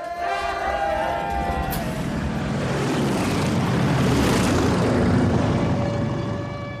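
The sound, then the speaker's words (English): Low-flying planes dropping leaflets roar overhead, a loud, steady engine drone with whining tones that swells and fills the space for several seconds. Faint voices may sit beneath the noise. “As they come out of their house to greet their guests and family, three sons, one daughter, and Carl's son from a previous marriage, Michael, they're interrupted by low-flying planes dropping leaflets.”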